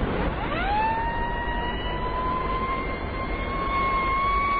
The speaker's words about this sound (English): You better have the siren, Barclay.